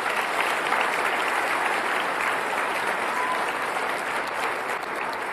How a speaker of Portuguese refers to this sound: Podemos aplaudir ao Senhor Jesus.